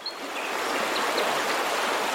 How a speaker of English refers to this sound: I can hear water. I think it's the water park.